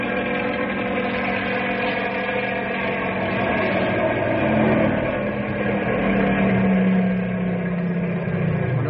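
The engine of a Ranger snow car travelling on the highway drones steadily, a loud, continuous mid-pitched roar with a buzzing, propeller-like quality, like a small plane flying low. The pitch rises slightly toward the end.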